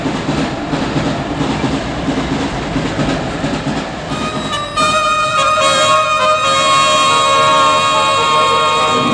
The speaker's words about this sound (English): Last train out. Usually a crowded one, carrying passengers who fraternize freely in an atmosphere of tobacco smoke and hops.